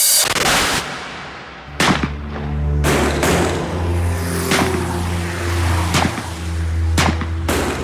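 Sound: gunfire shootout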